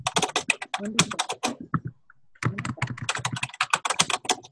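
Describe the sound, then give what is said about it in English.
Rapid, continuous typing on a fancy new computer keyboard, a dense run of sharp clicky keystrokes that pauses briefly in the middle before resuming at the same brisk pace. “Someone is typing very...”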